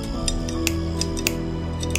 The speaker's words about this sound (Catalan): No són les ungles. En Henry, que és un soldat veterà, sap que aquest soroll és el de tallar filferro. Algú està tallant les línies defensives de filferro espinós.